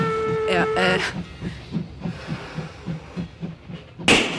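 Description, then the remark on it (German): A train whistle shrieks briefly at the start over a steady, rhythmic chugging of a passing train, with a sharp burst near the end. “Quer fuhr der Zug durch die Wohnung.”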